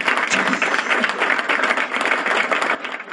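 crowd, clapping applause

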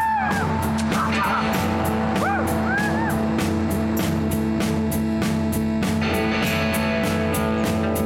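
human body sound, person screaming

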